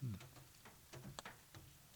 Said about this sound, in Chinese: 哎，下雨了耶， 下雨了， 滴滴答答的。